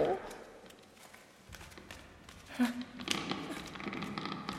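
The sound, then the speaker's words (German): Footsteps echo along a corridor with the adults' bedrooms, a steady series of soft treads that grow a little louder toward the end, with quiet voices murmuring underneath. “Da schon wieder! Jetzt kommen die Schritte aber aus dem anderen Gang.”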